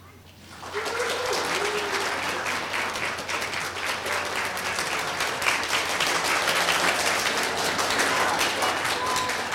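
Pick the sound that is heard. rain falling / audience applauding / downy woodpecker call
audience applauding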